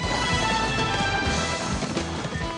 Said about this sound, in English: He mounts a horse and is riding alongside the train